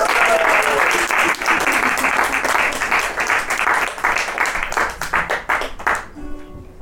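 A crowd at an evening performance breaks into steady, dense applause for the second performer, many hands clapping at once; it holds strong for several seconds, then thins into scattered claps and fades out near the end.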